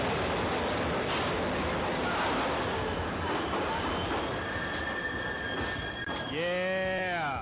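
A loud, continuous roar of a subway train on the tracks; a thin metallic whine rises midway, and the wheels break into a sharp, wavering squeal near the end.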